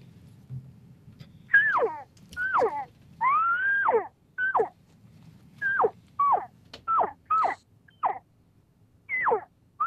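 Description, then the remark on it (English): A voice imitates an average cow call: about ten short, high, nasal mews, each sliding downward in pitch, repeated in a steady uneven rhythm over a low background rumble. “So let me give you a difference. This is just an average cow.”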